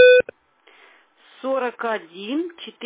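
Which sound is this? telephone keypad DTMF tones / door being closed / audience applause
telephone keypad DTMF tones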